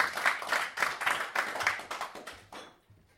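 An audience applauds John Tenney with a dense wash of clapping that swells in a loosely rhythmic pulse, then thins out and fades over the last half-second. No one speaks.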